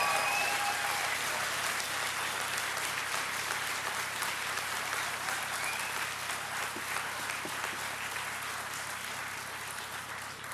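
A crowd applauds steadily for about ten seconds at a Workers' Left event in Australia, welcoming a returning speaker. A dense, even patter of many hands clapping holds fairly loud throughout and eases slightly toward the end.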